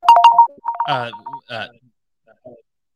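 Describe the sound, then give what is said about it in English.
A phone rings with a bright electronic tone, short repeated beeping bursts of a fixed pitch, overlapped by a few brief spoken sounds, then fading to quiet. “We had our phone was ringing in our ears.”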